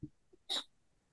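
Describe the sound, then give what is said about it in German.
A single sharp sneeze bursts out, brief and forceful with a hissy edge, after a soft intake of breath, then quiet. “Warte, ich muss niesen.”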